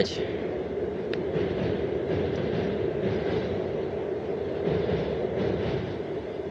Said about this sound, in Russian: А слушайте вы поезд